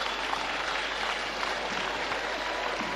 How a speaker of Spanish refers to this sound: Y también otro aplauso